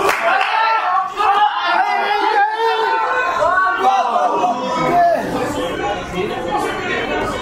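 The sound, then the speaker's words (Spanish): Restaurant diners chatter over one another during a Sunday football match involving Mexico, as play stalls: a steady, continuous babble of overlapping voices, with no single speaker standing out, holding an even, fairly loud level throughout. “el partido se traba y las conversaciones dominicales vuelven a escucharse”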